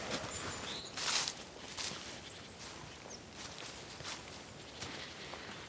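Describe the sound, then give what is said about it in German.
Steady footsteps crunch along a path on a forest hike in the Waldnabtal while a few faint, high bird chirps drift in over the top, sparse and thin against the walking sounds, sounding like spring, with no one speaking. “Und hier zwitschern schon schön die Vögel.”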